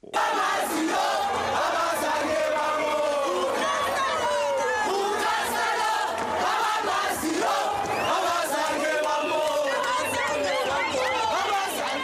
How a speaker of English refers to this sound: And they arrived home to a warm welcome at O.R. Tambo International Airport near Johannesburg. Let's listen in now to a sampling of the cheering, chanting, and singing in the airport terminal.